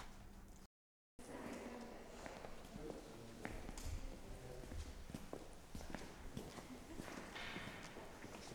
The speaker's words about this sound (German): Also ich denke, was man halt am meisten hört, einfach die Schritte von den Besuchern, Rauschen von der Technik. Und wenn halt die Besucher mal da sind, dann halt auch wirklich die Hintergrundgeräusche wie Stimmen von den anderen Besuchern.